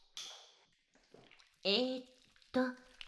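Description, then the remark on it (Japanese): Soft wet squishing of body soap being lathered into slippery foam in a bath, a few slippery squelches, with short voiced sounds breaking in near the end. “ボディーソープ、これ、泡立ててますから。”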